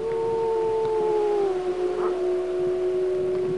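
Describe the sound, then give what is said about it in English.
Wolves of the Druid Peak Pack howl in Yellowstone's Lamar Valley, heard from the road: a long, steady howl holds a sustained tone that slowly dips in pitch, joined by a second overlapping howl, carrying clearly across open space with faint background noise and no talking. “I did, and not only did I see them right from the road, I could hear them.”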